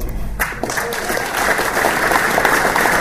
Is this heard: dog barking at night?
no